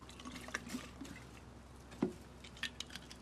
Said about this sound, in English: He puts the plastic bottle back down, then opens one of the desk drawers and takes out a glass bottle of vodka, which is almost empty. He takes off the lid, then empties the vodka into his white plastic water bottle.